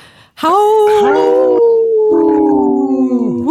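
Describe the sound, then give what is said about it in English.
Loud, sustained wolf-like howling in the sacred animal section of Native Roots Radio, with long sliding tones and several voices overlapping at first before one steady, wavering howl carries on to the end, with no talking. “It's a good howl.”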